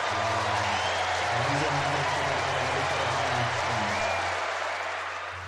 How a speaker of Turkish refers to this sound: Seni şöyle bir alkışlarla karşılayalım.